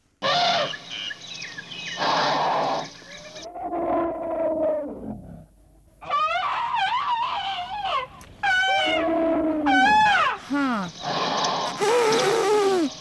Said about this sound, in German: Ich habe Elefantengeräusche mitgebracht von asiatischen Elefanten und von afrikanischen.